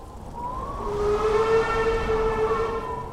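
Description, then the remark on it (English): A locomotive whistle sounds in one long, steady blast, swelling in and holding its harmonic pitch for about three seconds over a faint background rumble, from a locomotive heading east from the Des Moines River toward the Honey Creek Bridge. There are no voices. “That was a train.”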